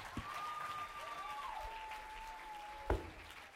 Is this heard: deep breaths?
no